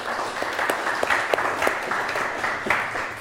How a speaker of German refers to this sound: Ich würde vorschlagen, mal einen kleinen Applaus für die bisherige Präsentation.